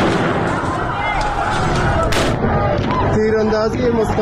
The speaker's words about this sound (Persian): تظاهرات کنندگان بلوچ در زاهدان با سد نیروهای امنیتی روبرو شدند و بعد صدای ممتد گلوله به گوش رسید.